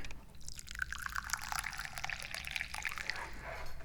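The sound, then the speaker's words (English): Tea pours steadily into a cup, a bright continuous splashing trickle that rises slightly in pitch as it fills, with no talking. “Which doesn't mean a whole heck of a lot, other than I am the guy who's pouring the tea.”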